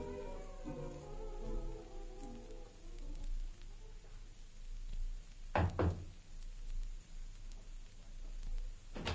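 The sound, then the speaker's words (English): Two quick, solid knocks on a locked door, one right after the other, after a faint tonal sound fades out. “Why'd you lock the door”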